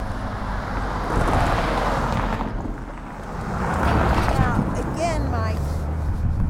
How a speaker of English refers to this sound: sidewalk installation on the north side of Grand, west of Kansas, where pedestrians and vehicles get dangerously close crossing the Jordan Creek Bridge. Do you really feel like you want to step up here with these cars coming at you?